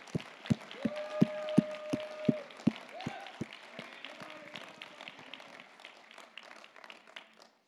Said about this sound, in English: Somebody give the Lord a clap and a shout. Dale aplauso al Señor.